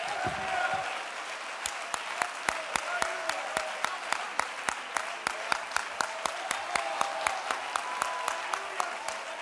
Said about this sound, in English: Somebody clap your hands to the Lord here today.